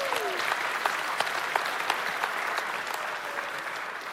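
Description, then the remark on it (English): A crowd applauds steadily, a dense wash of many hands clapping at once with a few sharper claps standing out, sustained and fairly loud throughout. “All right, thanks a lot. Give it up”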